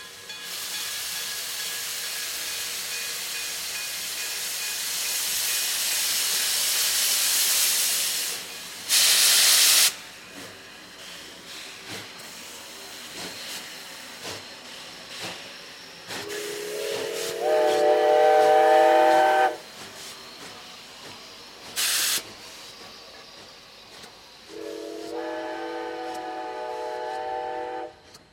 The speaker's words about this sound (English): All aboard, all aboard. All aboard for the night train here on Radio Carnival, FM 94.3.